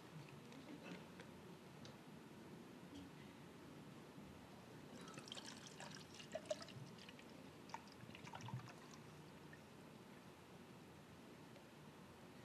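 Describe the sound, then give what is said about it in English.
Water pours steadily into a cup, a continuous splashing trickle with brief brighter gurgles midway, fairly quiet, with no talking. “When I fill this with water, the air cannot coexist in the same space that the water is.”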